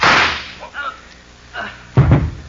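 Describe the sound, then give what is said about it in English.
One sharp, loud pistol shot, fired at a man, cracks right at the start and fades into a short echoing tail, followed by quiet and then brief voices. “don't wave that gun at us, Noonan. It only holds one shot”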